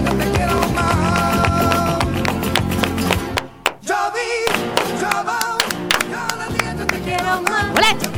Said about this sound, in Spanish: Las palmas.